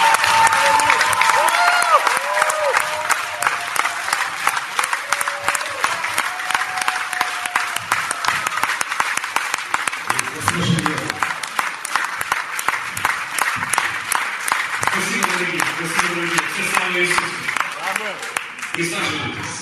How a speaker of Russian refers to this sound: Я много говорить не буду, представлять его не буду, вы его лучше, чем я, знаете, наверное. Просто дайте мне аплодисменты